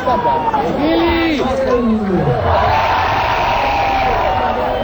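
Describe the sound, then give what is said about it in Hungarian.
A concert crowd in London erupts in loud, sustained applause as the performer appears after keeping them waiting, with scattered whoops and shouts sliding up and down in pitch above a dense wash of clapping and cheering. “várakoztatta a tömeget, majd amikor megjelent, szólt egy ilyen taps.”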